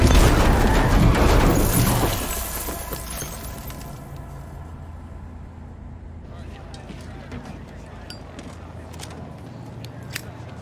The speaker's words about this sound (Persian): ببخشید با این تصادف همه شیشه ها پخش شدن وسط خیابون.